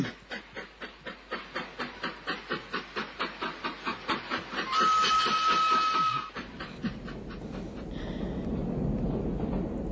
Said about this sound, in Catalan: Doncs ja el tenim, també el tren express en marxa.